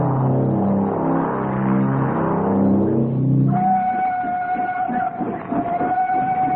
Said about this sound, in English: Prearranged, the engine came into view moving slowly.